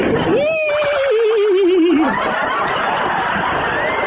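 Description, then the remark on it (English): A single loud horse whinny that starts high, then quavers downward for about two seconds before trailing off into a steady, noisy background. “Sir, you can't bring your horse in here.”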